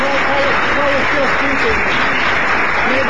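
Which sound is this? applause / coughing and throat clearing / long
applause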